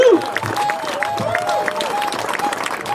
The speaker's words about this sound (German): Über 33.000 Unterschriften. Ich finde, das ist eine Leistung und das ist ein Applaus wert. Besten Dank.